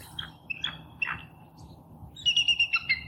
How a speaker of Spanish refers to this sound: Águila calva, ya sabes cuál.